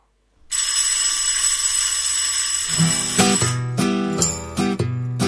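A loud electric school bell rings continuously with a harsh metallic buzz, and after a few seconds music starts up beneath it as the ringing carries on.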